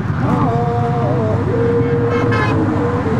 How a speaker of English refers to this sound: The group steps onto a pedestrian walkway. The bridge shakes and hums from the force of cars. It's unbearably loud. The walkers sing, but the noise drowns out their songs.